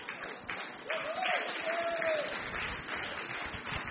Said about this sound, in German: Applaus für unseren Referenten. Richtig. Applaus für unsere tolle Schwester.